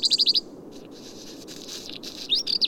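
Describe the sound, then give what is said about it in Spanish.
Small songbirds chirp among high mountain summits: alpine accentors, a black redstart, a small flock of common chaffinches and a lone robin. A quick run of five high, sharp notes opens, softer twittering follows, and another bright burst of chirps closes, over faint outdoor hiss. “A los más habituales de estos parajes, el acéntor alpino y el colirrojo tizón, se han sumado un pequeño bando de pinzones vulgares y un solitario petirrojo, más frecuentes en cotas bajas y boscosas.”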